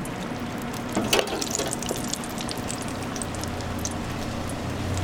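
A square of dough dropped into hot oil in a deep fryer in a small kitchen gives off a steady, hissing sizzle with scattered crackles and pops, briefly louder around the first second, then settling into an even bubbling hiss with no one speaking.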